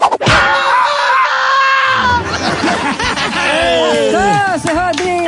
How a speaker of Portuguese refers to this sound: Dá um chute aqui com a bota bico fino